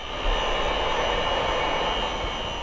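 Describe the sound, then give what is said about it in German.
A backwash water pump in a waterworks runs in a steady, loud mechanical roar, a dense whooshing drone with faint high whining tones that never changes over the short stretch. It presses water through fine filter membranes in steel tubes to clean the filters. No one speaks. “Für den Lärm im Wasserwerk sorgt eine sogenannte Rückspülwasserpumpe.”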